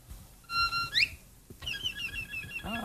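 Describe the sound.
A fiddle imitates a mockingbird with high, bright held notes that sweep upward, then a run of quick chirping, trilling phrases over a soft, rhythmic low accompaniment.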